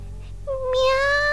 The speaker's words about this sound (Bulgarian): Мяу! А котенцето продължаваше да се приближава.